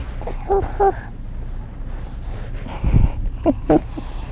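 A dog whimpers in short, high, nasal bursts, two early and two more near the end, with snuffly breathing and a soft snort in between, fairly quiet.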